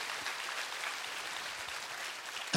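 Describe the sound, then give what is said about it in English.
A large crowd applauds steadily during a sermon, giving Jesus a round of applause, a dense wash of many hands clapping at once, holding an even level before a brief louder swell right at the end. “Come on, if you believe that, can you just go ahead and give Jesus a mighty round of applause?”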